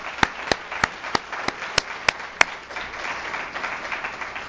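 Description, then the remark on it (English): A handful of sharp, evenly spaced claps ring out first, then merge into a steady wash of audience applause honoring those who protect the community, carrying on at moderate loudness to the end. “So can we have a round of applause for those who protect us?”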